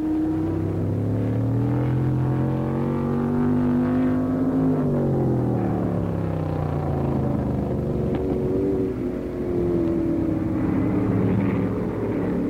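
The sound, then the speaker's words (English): McLaren's race car engine roars loudly and steadily as it passes seconds behind the leader, its pitch climbing and then sliding down around the midpoint, followed by a second rise and fall of engine whine. “McLaren roared by just seconds behind after starting dead last.”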